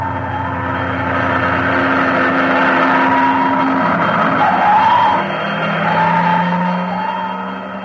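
Fire engines approach with a wailing siren rising and falling over the heavy rumble of motors, loud throughout, with no voices; they are responding to a building on fire and stop in the next block.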